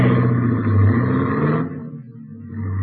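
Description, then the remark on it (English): A car engine drones steadily as the vehicle drives along the ocean, its rumble fuller at first, then easing to a quieter, lower hum after a moment. No one speaks. “As we drove along the ocean, the fog cleared up rapidly.”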